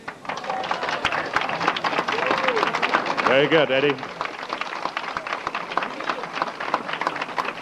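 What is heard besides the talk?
audience applause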